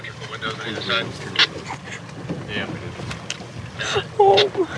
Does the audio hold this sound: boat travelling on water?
yes